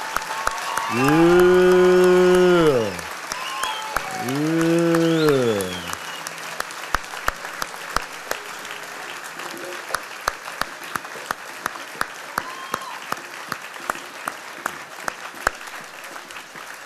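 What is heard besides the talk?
audience clapping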